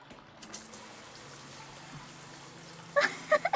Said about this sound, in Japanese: 溶けたとは言っても、まだお肌に残ってて、このままではいられないので、シャワーを浴びましょう。